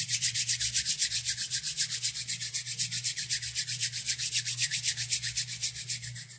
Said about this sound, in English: The first exercise is to rub your hands together like you were starting a campfire for about 15 seconds.